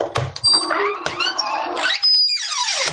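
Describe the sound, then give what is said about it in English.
A 'secret door' creaks open for a mystery guest on Coast to Coast AM with a drawn-out, squealing groan, its high pitch wavering and sliding over about three seconds before trailing off in a falling squeak. “So let's open up the door and see if I can find out.”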